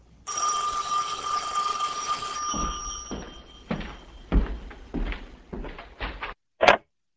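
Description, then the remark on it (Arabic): An old-fashioned telephone bell rings loudly and steadily for about two seconds, followed by a series of clunks and knocks, then one short, sharp rattle at the end. “خايف الله يحصل زي ما حصل الاسبوع اللي فات، بعد ما وصلناهم وروحنا البيت وقاعدين بناكل رن جرس التليفون.”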